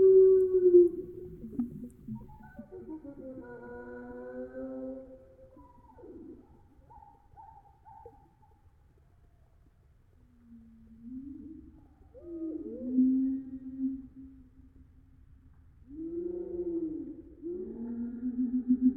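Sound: blackbird call slowed down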